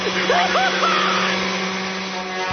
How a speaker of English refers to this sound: Vacuum. Daddy, I'm scared. Don't be scared, Pumpkin. Just a little rewiring mix-up is all.